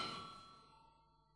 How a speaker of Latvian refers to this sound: Lūdzu, zvanu.